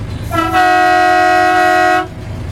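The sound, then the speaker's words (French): A loud Canadian train horn fitted on a restored car sounds one sustained blast of nearly two seconds, its several tones blending into a rich, brassy chord before cutting off abruptly over low background rumble. “J'ai un klaxon de train canadien aussi.”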